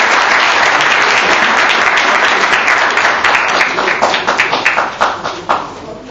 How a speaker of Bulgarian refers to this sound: Вашите аплодисменти за Васил Рибов.